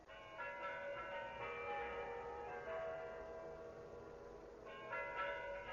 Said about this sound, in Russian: Куранты. Кремлевские часы бьют. Мы далеко, а как хорошо слышно. Этот звон... С каждым годом будет слышен все дальше и дальше.